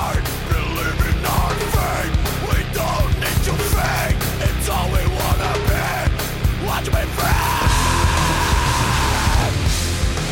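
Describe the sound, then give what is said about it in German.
Death metal: heavy, distorted guitars form a dense wall of noise while a harsh, guttural voice growls and shouts in the growling technique over relentless pounding drums, loud and dark throughout, with a sustained roar near the end. “Also eine Wand aus Verzerrung, vorne brüllt und knurrt einer eher, als dass er sänge. Growling nennt man diese Technik.”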